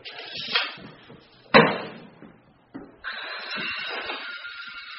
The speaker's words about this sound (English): Today, their construction project includes sawing off the legs of a door jamb to adjust its height.